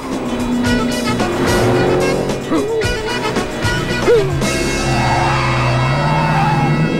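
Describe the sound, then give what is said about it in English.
A car driven by a woman speeds through traffic and races past two traffic policemen on motorbikes; the engine roars and revs, with whooshing passes and a brief tire squeal, steady and loud throughout with swelling, rising engine tones. “She races past two traffic policemen on motorbikes.”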